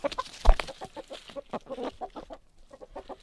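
A chicken clucks in a rapid, uneven series of short throaty bursts, with one sharper, louder knock near the start and no talking.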